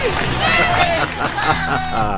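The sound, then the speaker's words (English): A loud crowd cheers and shouts a name continuously, many voices overlapping in an excited roar with a dense wash of applause underneath, sustained for a couple of seconds. “Is there no sweeter sound than that of your own name buried in cheers and applause?”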